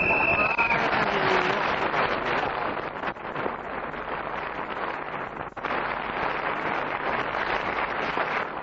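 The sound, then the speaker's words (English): An audience breaks into a sustained round of applause for an impersonation of Vita Sackville-West, a dense, steady wash of clapping that holds at an even, fairly loud level for several seconds, with a brief high whistle at the start. “Well, the round of applause not only was for your impersonation...”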